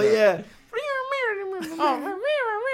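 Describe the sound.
Human voices sing a string of drawn-out, gliding meows, imitating a cat. The meows are loud, about four sweeping notes in quick succession with no plain talk.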